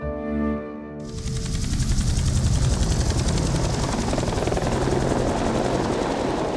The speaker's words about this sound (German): Mit dem Hubschrauber.